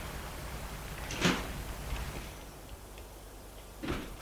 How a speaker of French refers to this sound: Laurent, gêné, va ouvrir la porte de l'allée.